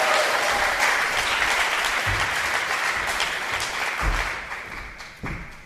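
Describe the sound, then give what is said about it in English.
Sustained audience applause for poet Manuel Paul Lopez, a dense crackle of many hands clapping at steady loudness for several seconds, a few heavier thumps mixed in before it begins to taper off at the end. “Wild applause for Manuel Paul Lopez.”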